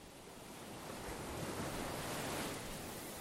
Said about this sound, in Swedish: Inbäddad i ett vackert landskap av gröna kullar som blir till branta stup innan de störtar ner i havet ligger den lilla staden Kinsale på Irland. Här rullar Atlantens kalla bränningar in mot stränderna.